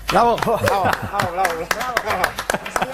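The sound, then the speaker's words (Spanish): The 11:44 applause for a newly awarded Princess of Asturias prize winner: sharp, scattered claps in an uneven patter run throughout, while voices talk loudly over the top and partly mask it. “El aplauso de las 11:44.”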